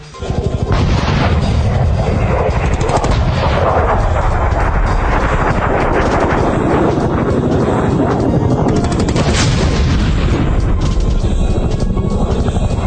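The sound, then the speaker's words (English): Dense, sustained Iranian anti-aircraft gunfire and heavy booms over Tehran at night fill the scene without a break, loud and chaotic, with explosions rumbling throughout. Faint voices may sit beneath the din. “One blog has a live feed of Iranian anti-aircraft fire.”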